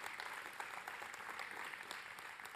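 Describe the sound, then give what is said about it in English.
A large church audience claps for graduates steadily and continuously, a dense wash of many hands with no voices standing out, sustained at an even, moderate loudness throughout. “Graduates today, I applaud you.”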